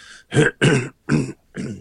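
cough and throat clearing

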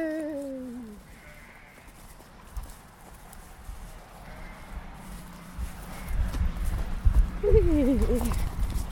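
sheep and lambs bleating

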